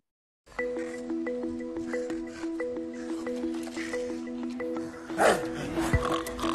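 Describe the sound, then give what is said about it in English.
Wet squelching of pigs wallowing in mud at a pig spa, with a few snorts and a louder sloppy burst near the end, all over a steady humming musical drone. “This is a short video on pig spa.”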